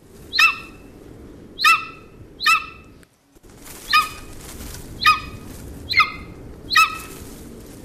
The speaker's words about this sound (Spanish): Es un águila. Es un águila, vale. Pero qué águila, no sabes, ¿no? Pues no, no te sabría. No, este es el águila real.